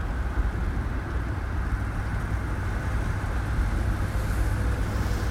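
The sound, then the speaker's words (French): A car drives steadily with its engine running, a continuous low rumble and road noise holding at an even level throughout, with no voices or distinct events breaking through. “C'est pour ça que tu conduis ce modèle ?”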